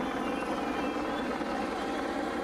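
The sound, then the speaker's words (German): Helicopters drone steadily overhead in the evening above a small village of about 40 residents, the broad rotor roar filling the air at a constant loud level with no voices or other sounds. “Die etwa 40 Einwohnerinnen und Einwohner wurden von Hubschraubern und Schüssen aufgeschreckt.”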